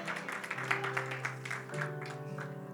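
An audience applauds, a dense patter of clapping that carries on for a few seconds over a steady, sustained keyboard chord, with no voices standing out.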